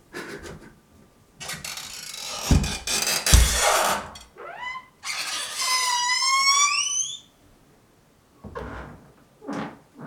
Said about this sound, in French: Mais écoutez la porte de la salle de bain.